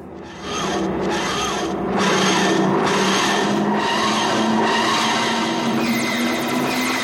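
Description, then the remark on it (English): The TARDIS dematerialisation whooshing sound effect from Doctor Who: a loud, rhythmic grinding wheeze that pulses roughly once a second over a steady low hum that slowly rises in pitch, with no voices. “TARDIS whooshing, TARDIS whooshing, TARDIS whooshing.”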